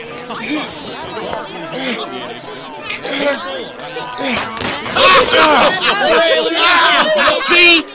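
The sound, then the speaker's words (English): A small, restless crowd murmurs and chatters in a dense babble of overlapping voices, growing louder and more agitated over the last few seconds. “The crowd is getting restless, and the police are on their way to charge you with public indecency.”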